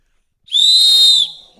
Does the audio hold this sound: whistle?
yes